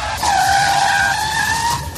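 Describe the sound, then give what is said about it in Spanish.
A car brakes hard, its tires letting out a sustained high-pitched screech that holds steady for almost two seconds before cutting off. Loud, with no voices over it. “Frenazo en seco.”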